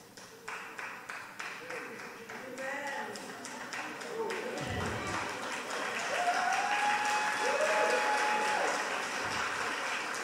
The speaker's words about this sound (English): What are they clapping about?